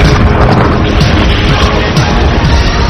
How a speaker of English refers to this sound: Let me take you back in time, and I want for you to experience Big Bang.